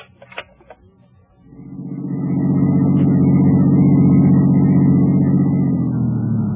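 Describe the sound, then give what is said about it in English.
A few sharp clicks and knocks give way to a car engine that starts up, revs and settles into a steady, loud rumble as it drives along, with no voices. “I parked my car, went on upstairs”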